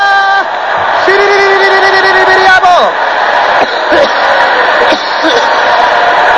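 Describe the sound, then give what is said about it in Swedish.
A crowd jumps and cheers for Jesus, whooping loudly for several seconds, sustained yells and high shouts layered into a dense, continuous roar with a few sharp peaks. “Kom igen, låt oss jubla för Jesus!”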